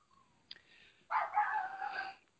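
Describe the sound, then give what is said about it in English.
A dog barks: a short, sharp yelp followed by a longer, loud, drawn-out bark with a whining, tonal quality. No one speaks. “Yes, and my dog. I'm sorry.”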